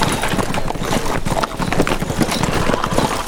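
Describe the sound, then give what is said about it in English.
A horse, spurred on by a stranger riding out of the Medicine Bows, gallops fast toward the listener, its hooves pounding in a rapid, continuous rhythm that stays loud throughout, with no voices. “He spurred his horse and came on fast.”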